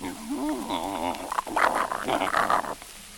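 Fairly loud snuffling of a walking hedgehog: a brief wavering, whiny squeal gives way to a rapid run of breathy sniffs and huffs, with no one talking.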